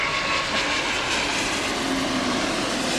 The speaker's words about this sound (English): And this is Ruby Chow Park, right near the north end of Boeing Field. I think I hear a plane approaching. Is that true? Oh, my God!